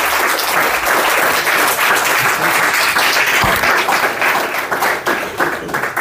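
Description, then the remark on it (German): An audience applauds a guest at the end of a talk event, many hands clapping steadily in a dense, continuous wash of sound that stays loud for several seconds before easing slightly at the end. “Einen herzlichen Applaus für den Patrick Donnerbauer.”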